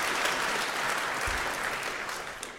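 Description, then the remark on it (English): An audience applauds the heralds and angels before a talk on demystifying common microcontroller debug protocols, a dense and even wash of many hands clapping that holds at a fairly strong level throughout, with no voices breaking through. “First, let's give a round of applause for the heralds and the angels for putting up with all this and generally keeping things moving smoothly.”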